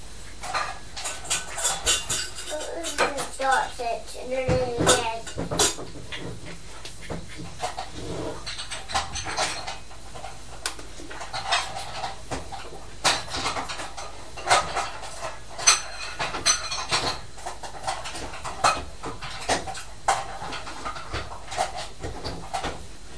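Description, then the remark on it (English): Metal cutlery clinks and rattles repeatedly as a cutlery drawer is put back, with scattered clatters of utensils and dishes being handled, sharp bright jangles coming in irregular bursts throughout. “Have you put the cutlery drawer back on?”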